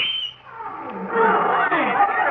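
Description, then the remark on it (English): A loud, dense chorus of lions, tigers, elephants and camels, with roars and bellowing cries overlapping continuously for a couple of seconds, swelling after a brief dip near the start. “We'd like a fine parade of lions, tigers, elephants, and camels.”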